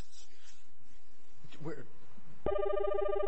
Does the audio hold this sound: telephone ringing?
yes